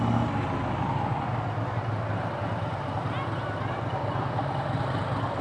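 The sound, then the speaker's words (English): A large, shiny black and silver Harley motorcycle carrying two people gives a deep engine rumble that blends into steady street traffic noise. It holds at a fairly constant, moderately loud level throughout, without a sharp rise or fade. “Man, that is one big motorbike.”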